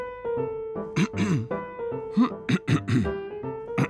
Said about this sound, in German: Und wenn er nervös war, dann fing er an, sich zu räuspern.